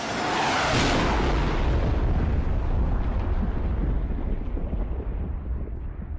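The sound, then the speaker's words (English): A supersonic Concorde jet's sonic boom: one sharp, loud blast, then a deep rolling rumble that slowly fades over several seconds, with no voices. “And the sonic boom it produced annoyed everybody along its flight path.”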